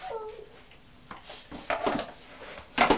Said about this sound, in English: We'll put that tray down. Right. Come and put your pots on the tray and then we'll plant the seeds.